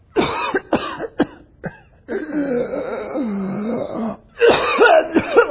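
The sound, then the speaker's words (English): A few sharp, harsh coughs, then a long strained, wheezing rasp of labored breathing as someone tries to breathe in thick smoke, followed by another loud cluster of hacking coughs. “So for 8 hours of every day, it's so thick that as you try to breathe, you get...”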